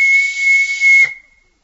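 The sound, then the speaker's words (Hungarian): A single sharp, sustained whistle blast, loud, holding one steady shrill pitch with a breathy hiss for about a second before cutting off abruptly. “Mi ez a síp?”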